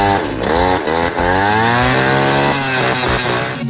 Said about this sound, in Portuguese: Tô andando de jet ski, escuta o barulho aí, ó.